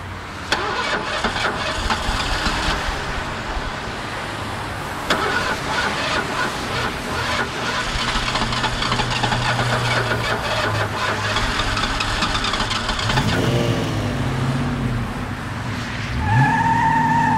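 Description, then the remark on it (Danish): A car engine cranks and sputters repeatedly before catching, revs up loudly, then roars and accelerates away with a rising whine. No voices. “For med besvær startede motoren og kører væk i en rasende fart.”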